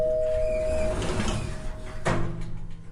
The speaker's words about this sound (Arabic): مين ذا اللي يدق الجرس في ذي الحزة؟ خليني اروح اشوف افتح الباب.